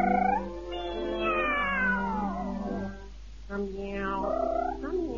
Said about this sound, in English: But he swears it sounded like two cats. Yeah? Singing a duet.